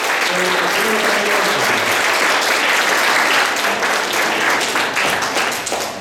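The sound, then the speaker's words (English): A crowd applauds steadily for several seconds, a dense wash of loud clapping with faint cheers or voices underneath, tapering slightly toward the end. “Great, and one more round of applause.”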